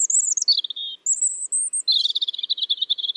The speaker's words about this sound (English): Take a listen to this robin. Does it sound a little weird to you?